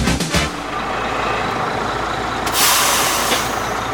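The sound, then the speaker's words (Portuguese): A city bus's engine rumbles, then a sharp hiss of air brakes bursts out midway as the bus pulls up and comes to a stop, the idling drone continuing afterward. “Finalmente, eu não aguentava mais esperar esse ônibus.”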